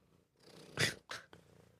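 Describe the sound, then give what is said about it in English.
A contented female cat purring into the microphone, a low rumbling hum that swells in soft pulses with a couple of brief breathy bursts, no talking. “Oh, she's purring. Oh, you hear her?”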